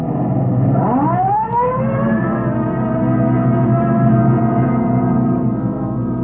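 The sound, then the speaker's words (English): A police car responds Code 3 with red light and siren to a robbery call on Grand Avenue. The siren winds up in a rising wail and then holds a steady, loud tone, over the continuous rumble of the car's engine accelerating. “Code 3, red light and siren.”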